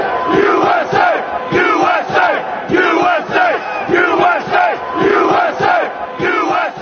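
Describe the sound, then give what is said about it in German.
A large crowd of militant Trump supporters storming the Capitol roars and shouts continuously, many voices overlapping in loud, rhythmic chanting bursts with no single speaker standing out, for about seven seconds. “Militante Anhänger von Trump stürmen das Kapitol, um zu verhindern, dass die Abgeordneten und Senatoren den Wahlsieg Joe Bidens formell bestätigen können.”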